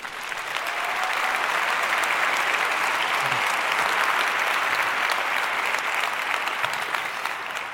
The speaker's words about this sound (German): Bitte begrüßt ihn mit einem herzlichen Applaus.